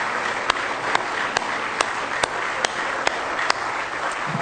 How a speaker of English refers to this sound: Are you glad you love Him tonight? Somebody say glory. Let's give Him a real good hand clap of praise tonight if you love Him.